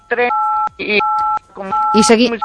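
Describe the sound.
Three steady, mid-pitched telephone keypad tones from keys pressed by a woman on a phone call, which make her voice drop out. Each tone is held about half a second, alternating with short bursts of a person talking, with the last tone sounding under the voice.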